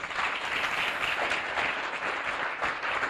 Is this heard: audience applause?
yes